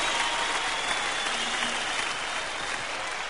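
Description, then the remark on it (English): Sustained applause from a large audience, a dense steady wash of clapping hands that stays loud and even throughout, with no voices standing out. “Stand up and clap. Stand your ass up and clap.”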